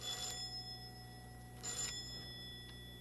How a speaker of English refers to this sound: See the sign? Please ring. It's because we have a doorbell.